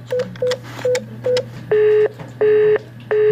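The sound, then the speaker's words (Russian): A run of short dialing beeps, then a telephone busy signal: a steady mid-pitched tone pulsing on and off at an even rhythm, three times, over a low continuous line hum, heard when calling a subscriber of the Donetsk operator Phoenix in non-government-controlled Donbas. “Сигнал занято. Это все, что можно услышать, если пытаешься дозвониться абоненту на неподконтрольной территории Донбасса.”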